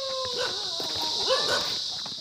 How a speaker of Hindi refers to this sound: गांव में दूर दूर तक कोई नजर नहीं आ रहा है। मकान बंद हैं, कुत्तों के भौंकने की आवाजें खामोशी को चीरते हुए दूर तक जा रही हैं।